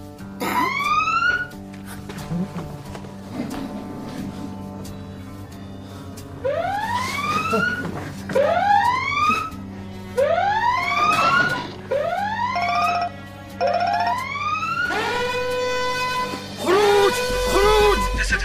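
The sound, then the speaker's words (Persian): A burglar alarm siren wails, loud and insistent, with repeated rising sweeps that shift into steady tones and a rapid warble toward the end, over a low background hum. “آلارم پلیس فعال نشده، میتونی دوباره دزدگیر رو قطع کنی؟”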